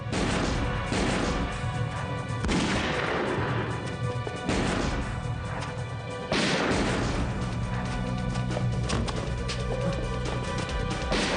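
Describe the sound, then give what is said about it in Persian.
A loud, sustained barrage of gunshots during a police siege, with heavy blasts every couple of seconds over continuous crackling fire and a dense, noisy background. No voices are heard. “دیگه راه فرار نیست. فقط شلیک کن جیمی.”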